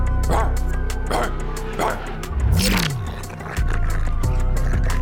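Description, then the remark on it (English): A dog barks three times in a steady rhythm, then lets out a single rising and falling whine, all over a loud, constant background rumble. “OJ just turned back into a dog.”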